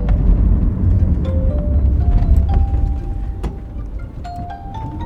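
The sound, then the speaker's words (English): A car engine labors up a steep, rocky, twisting road through the Biria forest north of Tzfat, Israel: a heavy, steady low rumble with a thin whine that climbs in pitch in small steps, plus a few faint clicks. No one speaks. “And the car I'm in sounds like its engine is just barely up for the job.”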